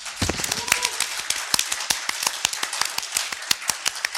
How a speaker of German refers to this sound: Aber danke und Applaus